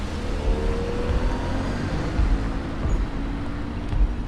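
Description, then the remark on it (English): A blue car drives along a street, its engine and tyre rumble steady throughout, with a low hum of road noise and no voices. “On another street, Kate drives a blue car.”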